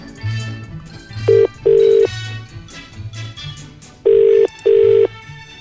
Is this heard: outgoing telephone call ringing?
yes